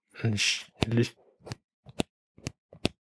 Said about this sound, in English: That sound, that clicking sound, that's the microphone going from straight to the front to the back. So you can clip it from radio mic to TV mic, which was actually a neat trick.